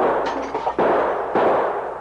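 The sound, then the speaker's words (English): Two loud gunshots crack out a little over half a second apart, each leaving a harsh, noisy tail; the first shot smashes a lantern carried by a sergeant. No voices. “The first shot had smashed the lantern which the sergeant was carrying, but the Mounties had dropped behind the boulders before any more of the bullets could take effect.”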